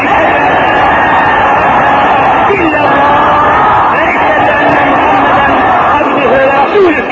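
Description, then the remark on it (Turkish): A large crowd shouts the shahada, the Islamic declaration of faith, together, a loud, continuous roar of many voices chanting in unison that fills the whole stretch without pause. “Her nefesimizde kelime-i şehadet ki aşk ile çığlık çığlık buyurun.”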